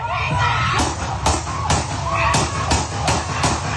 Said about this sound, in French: Cette détonation pour 7 coups de feu dans son dos. 7 coups de feu qui ne le tuent pas.